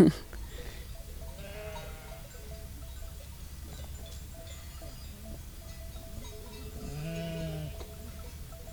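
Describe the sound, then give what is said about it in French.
Dairy ewes bleat a few times from a flock, with one louder, wavering bleat near the end, over a steady low outdoor rumble. “De toute façon, on aime les brebis, on aime les garder, on les soigne parce qu'on ne veut pas laisser une bête dans la souffrance.”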